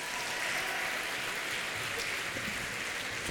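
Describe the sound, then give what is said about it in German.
Audience applause for a volunteer who has come up front, a dense, steady wash of many hands clapping at an even level for several seconds, with no clear voices over it. “Ein Applaus für den”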